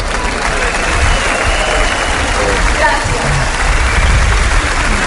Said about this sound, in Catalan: Ja està? Ha acabat el discurs de Dolors Feliu? No, continuem esperant els aplaudiments que acabin.